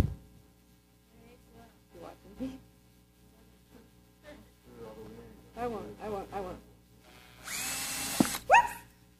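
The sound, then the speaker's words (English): Voices talk for several seconds, then a cordless power drill with a battery pack whirs loudly up to speed for under a second, followed by a second, shorter burst right at the end. “guess what they're using? They're using the drill.”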